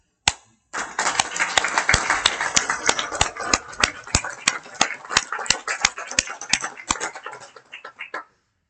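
A crowd at a council meeting applauds steadily for about seven seconds, a warm applause for a member's service, a dense wash of clapping punctuated by sharper individual claps, before it quickly dies away. No one speaks over it.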